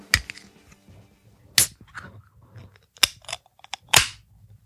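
A 12-ounce beer can is cracked open: several sharp metallic clicks and pops from the tab, each with a brief hiss of fizz, spaced apart with quiet handling noise between and no talking.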